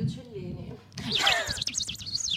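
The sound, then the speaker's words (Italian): After a moment of low murmuring, someone bursts into rapid, high, warbling bird-like chirps and whistles, fairly loud, as a voice imitates a chirping bird for about a second and a half. “Oh, siamo al Birdland in Bo, se non ci anche gli uccelli ci vuole.”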